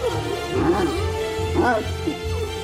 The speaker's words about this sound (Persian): کریپتو، پارس کن.